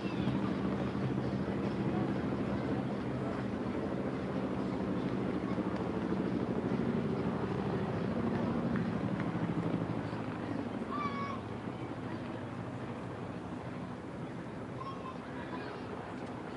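A distant helicopter's rotors drone as a low, steady rumble through the whole stretch, heard at a baseball game across the street from the Children's Hospital of Alabama, layered under a broad wash of outdoor crowd ambience with a few faint chirps near the end.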